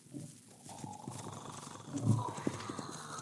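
Hoofbeats of a horse carrying a dummy rigged on its back to look like the Headless Horseman, whipped up and sent toward a cabin, growing louder over a few seconds with a couple of heavier thuds near the end, set against a busy outdoor background.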